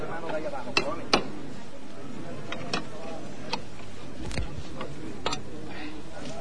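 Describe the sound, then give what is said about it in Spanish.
Sharp metallic knocks of a hammer striking the rear right support leg (zanco) of the Hermandad de la Amargura's paso de misterio float during a maneuver at the start of its penance procession, about five or six irregular blows, set against a low murmur of voices. “Escuchen el sonido del martillo.”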